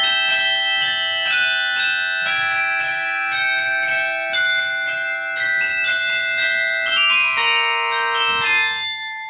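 Carillon bells at a carillon concert in Belgorod ring out a flowing ballet melody, many bright bell tones struck in quick succession with long overlapping resonance, loud, with no voices.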